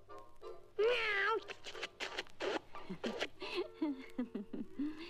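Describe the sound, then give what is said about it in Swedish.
Kittens meow repeatedly in high, wavering cries, with a long wail early on followed by quick overlapping squeaks and mews as they play-fight, practising biting and scratching. “Det övas bara bitas och rivas. En fin katt övar inte att rivas och bitas och sånt där.”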